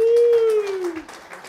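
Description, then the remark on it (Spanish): Brief burst of audience applause, quick overlapping claps under a sustained, falling vocal cheer that fades after about a second, leaving scattered softer clapping. “¡Aplauso!”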